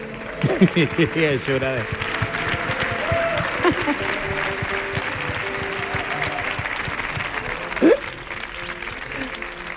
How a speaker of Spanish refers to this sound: Señoras, señores, fuerte el aplauso